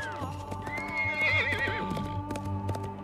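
A colt named Black whinnies in a long, wavering call while his hooves clip-clop steadily beneath it as he gallops across an arid valley. The sound is fairly loud, with no voices present.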